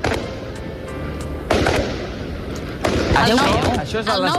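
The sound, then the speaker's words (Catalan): Fireworks and firecrackers set off by Barcelona football fans at night, around two in the morning outside the team's hotel, pop and bang against a steady outdoor rumble, with two sharp louder blasts, followed by excited voices shouting over the continuing crackle. “I s'estaven disparant, focs artificials, rotllo Festa Major, eh?”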